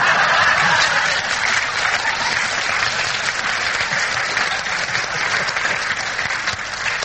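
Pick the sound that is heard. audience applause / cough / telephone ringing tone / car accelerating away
audience applause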